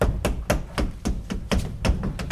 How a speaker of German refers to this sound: Halt mal, klopfen Sie die Rückwand des Schrankes ab hier, ja? Jawohl.